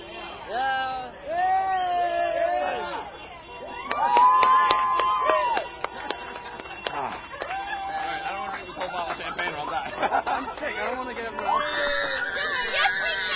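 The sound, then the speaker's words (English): A street crowd cheers and yells in overlapping, wavering shouts while vehicle horns, including those of buses, honk in long steady blasts, with scattered sharp claps and whistles throughout; the noise stays loud and busy the whole time. “Even buses are honking the horns? That's amazing.”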